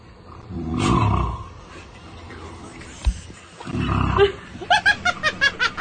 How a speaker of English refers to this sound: No, you go back and watch Jurassic Park. That sounds like T Rex, doesn't it? Where he like gets his eyeball right down there next to the car.